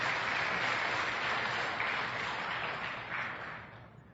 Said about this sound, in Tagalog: Isa pang malakas sa palakpak sa ating Panginoon.